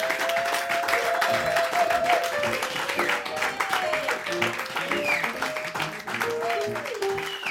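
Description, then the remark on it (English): Sustained audience applause for a group of singers about to come and sing, a dense steady patter of many hands clapping for several seconds, mixed with high cheering and whooping voices rising and falling above it. “Give my babies a great big round of applause, because they're going to come and sing for you.”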